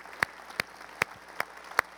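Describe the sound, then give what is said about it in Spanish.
Five sharp, evenly spaced claps ring out at a slow, steady beat, each a crisp bright smack over a faint background hiss, with no voices; applause from a standing audience honouring young people just baptized. “¿Por qué no nos ponemos de pie en este momento y honramos a esos muchachos con un aplauso fuerte?”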